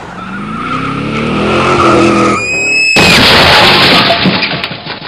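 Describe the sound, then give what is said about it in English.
A motor revs, then tires squeal sharply for a moment before a loud, rough scraping rush as a scooter taking a corner too fast skids out on a rain-slick road and slides into the next lane. No voices. “It had been raining, the road was super slick, and I wiped out completely on my scooter. The scooter slid out from like underneath me into the next lane, almost got hit by an oncoming car.”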